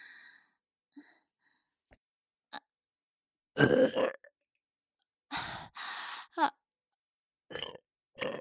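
burp

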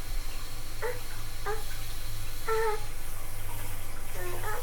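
shower water running

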